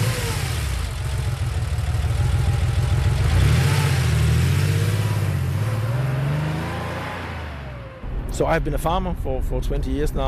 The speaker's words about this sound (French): Nous montons dans son 4x4 et allons à environ 30 km au sud.